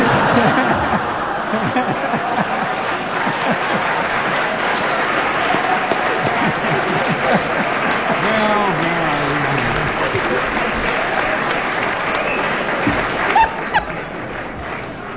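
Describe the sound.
A crowd claps steadily for about fifteen seconds, a dense even patter of many hands, with scattered chuckles and a voice or two murmuring underneath.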